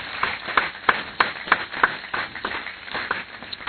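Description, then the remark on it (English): An audience claps as a clap offering to the Lord, in a steady, quick rhythm, sharp unified claps landing about three times a second over a dense wash of scattered handclaps and crowd noise. “Give Lord a clap offering.”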